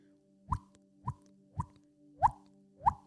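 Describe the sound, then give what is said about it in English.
A voice imitates a water droplet with five hollow, pitched plops, each bending upward in tone, spaced evenly about half a second apart, with a faint steady hum underneath. “I could make sound of a water droplet.”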